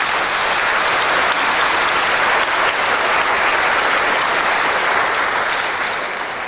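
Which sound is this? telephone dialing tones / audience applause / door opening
audience applause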